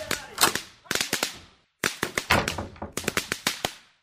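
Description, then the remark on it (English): Homemade fireworks exploding in a cellar in a rapid, irregular string of sharp bangs and pops, coming in several loud bursts with brief echoing decay and a short pause partway through. “You see, Tony, my father makes fireworks in the cellar.”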